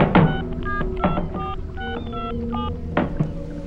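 A rapid series of short electronic keypad tones, about eight distinct beeps at a quick, slightly uneven pace, as a man dials a number on a mobile phone, with a few soft thumps underneath.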